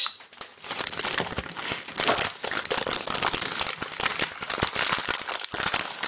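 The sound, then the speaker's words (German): A staged lemon-squeezing effect: loud, dense crinkling and crackling right up against the microphone, continuous for several seconds with no voices. “Das, liebe Kinder, waren Zitronen.”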